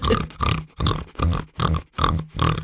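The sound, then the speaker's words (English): A person imitates a French bulldog's snorting: six rough, nasal snorts in a steady rhythm, each a short loud burst with brief gaps between, no words spoken. “A few friends of mine have got French bulldogs, which is kind of part of the pug posse. Pug-esque. And my God, the noise.”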